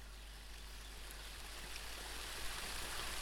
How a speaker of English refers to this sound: You'd never even know this little waterfall was here if you weren't headed straight up this trail. You'd never find it.